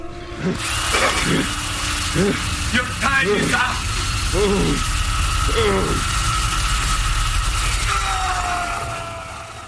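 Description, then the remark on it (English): A power drill whirs and grinds steadily for nearly ten seconds as it drills into a man's shoulder in a torture scene, while the man lets out loud, anguished screams over it, and another voice briefly shouts. “Some of the tactics, waterboarding, electrocution, or this week's power drilling into a man's shoulder.”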